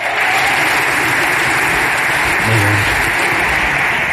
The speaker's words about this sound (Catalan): Et rebem amb un fort aplaudiment el cantant i pianista Roger Pedrós i la cantant i periodista Georgina Arnau. Endavant!